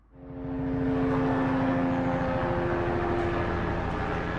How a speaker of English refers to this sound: A police helicopter flies over a pileup of cars on a Johannesburg highway.